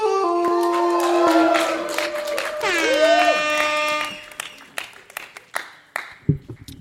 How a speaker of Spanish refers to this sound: Y el siguiente individuo... Vamos a ver qué nos va a decir esta noche. ¡Fuerte aplauso para Michael!